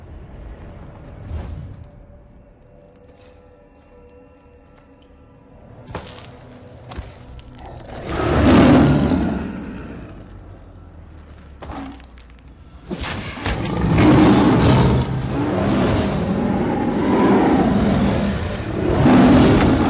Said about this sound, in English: Please watch this video of a lion fight.